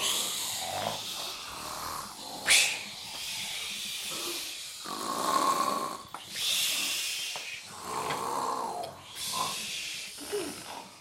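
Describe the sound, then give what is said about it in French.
A person imitates snoring with a run of breathy snores and hissing exhales, repeating in a steady rhythm for about ten seconds, with no talking. “Le bon Dieu s'endort et il roule comme ça.”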